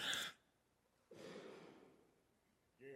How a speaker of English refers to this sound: I'm going to cough again.